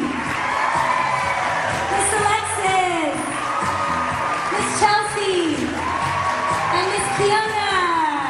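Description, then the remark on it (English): A crowd cheers and claps steadily for several seconds, with children's high shouts and whoops rising and falling over a continuous wash of applause, loud throughout. “Let's give everybody a big round of applause one more time.”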